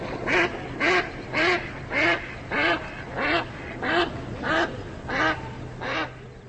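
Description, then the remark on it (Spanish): A duck quacks repeatedly in a steady rhythm, about nine loud, nasal calls evenly spaced, on the choppy waters of the Jehuň pond, built on the Zidlina river in 1492, with a low constant hum of water or background noise underneath. “Hoy en día surcan las encrespadas aguas del estanque de Jehuň patos y cisnes”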